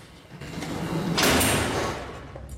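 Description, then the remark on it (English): A heavy sliding cell door rolls shut with a rising metallic rush that peaks sharply, then fades into a low lingering rumble. No voices are heard. “After closing the cell door, she passes through another one on her way out.”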